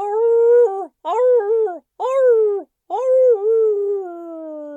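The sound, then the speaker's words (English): A hound dog, running along a trail through leaves and muddy earth in the woods as night falls, yowls loudly in four drawn-out, wavering cries separated by brief pauses, the last one stretching longest as its pitch slowly sinks. “It wasn't hard to find the hound dog's trail because she was making a big trench through the leaves and muddy earth, and she was also making a yowling sound so loud it was easy to follow. It sounded just like this.”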